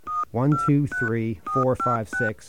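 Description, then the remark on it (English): Phone keypad tones dial a ten-digit number into an automated phone line: about six short, steady beeps at an even pace, each running straight into a burst of voice, so tones and speech alternate throughout. “Enter a 10-digit phone number now.”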